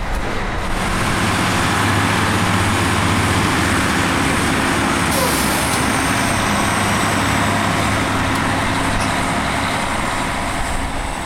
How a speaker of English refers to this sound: So I'm just going to go up and leave the recorder on and get some ambient. Sounds like the train is going to arrive pretty soon here.